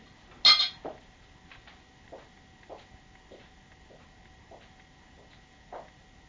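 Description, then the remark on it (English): A sharp ceramic clink opens, followed by a series of lighter, irregular taps and chinks of spoons against cups while coffee is made, with faint steady tonal hum underneath and no talking. “I'll make you some coffee.”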